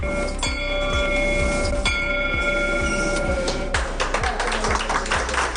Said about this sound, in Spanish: La llaman la campana de la esperanza, la tocan los niños dos veces en mitad de esta pesadilla, cuando terminan la medicación, el tratamiento y también cuando están curados y han concluido con éxito el seguimiento.